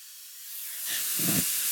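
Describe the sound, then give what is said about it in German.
A loud burst of hissing steam from an espresso machine's steam wand, briefly let off to purge condensed water, building quickly into a forceful, sputtering purge that continues steadily with no voices. “Deswegen lassen wir einmal kurz, und jetzt wird es einmal kurz laut, ein bisschen Dampf ab.”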